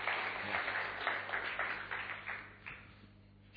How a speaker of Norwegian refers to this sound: Her er den flotte gruppen av våre døve venner på møte i dag. Skal vi gi dem en god applaus, selv om ikke de hører det?